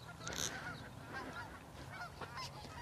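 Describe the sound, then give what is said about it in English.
Several geese honk repeatedly in a loose, overlapping chorus, the calls steady against a low rumbling background, with no one speaking. “Geese is when geese are flying overhead, it's never a good idea to look up with your mouth open.”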